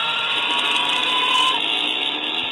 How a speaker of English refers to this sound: What is that sound effect? That was called dying soul.